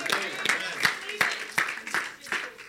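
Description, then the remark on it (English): An audience claps for the Lord together in a steady, even rhythm, about eight sharp claps in under three seconds, with a murmur of voices running underneath the beat. “Real, clap for the Lord.”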